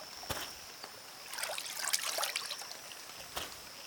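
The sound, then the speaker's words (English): A babbling brook feeding a pond trickles steadily, with bright splashes and gurgles over a constant watery hiss and a few sharper drips standing out. No voices. “a deep divot in the ground that is now a pond, fed by the babbling brook.”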